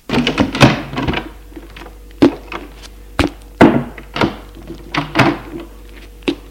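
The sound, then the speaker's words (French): The door of a parents' bedroom opens, its latch and wooden frame giving a string of sharp knocks and dull thuds at uneven intervals amid otherwise quiet surroundings. “Eugène ouvre la porte de la chambre de ses parents.”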